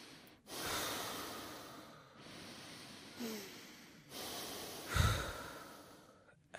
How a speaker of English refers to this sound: Okay, I want you to close your eyes. Focus on your breathing.